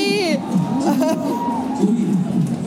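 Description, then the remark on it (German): High-pitched excited shrieks and squeals from a few women, loud, continuing in an overlapping burst like thrilled fans, with a lively crowd-like babble underneath. “Vielleicht kreische ich mal kurz 5 Sekunden.”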